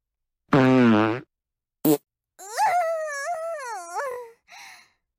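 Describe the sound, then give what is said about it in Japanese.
A loud, buzzy fart, then a quick short pop and a long squeaky fart whose pitch wobbles up and down before sputtering out, with no talking. “くっさーい、おならがブリブリ出るの。”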